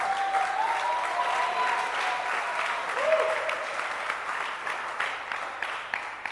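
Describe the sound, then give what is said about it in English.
An audience at a church teaching claps steadily for several seconds for a man who made a point. It is a dense wash of many hands, with a faint whistle or cheer rising briefly above it. “Clap your hands for him again.”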